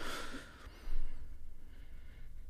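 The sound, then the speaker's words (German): A single soft, airy exhale through the left nostril, with the right nostril closed by a finger during a breathing exercise, a breathy hiss that fades after about half a second, followed by near silence with faint background noise. No one speaks. “verschließt es mit deinem rechten Zeigefinger und atmest aus dem linken Nasenloch tief und lang aus”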